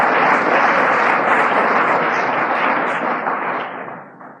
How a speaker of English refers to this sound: He's sober now 3 years. For him, I'll take applause.